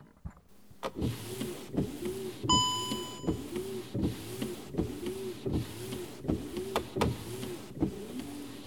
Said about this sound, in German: Hier habe ich noch zwei mechanische Geräusche für euch aus meinem Auto. Hier die Scheibenwischer.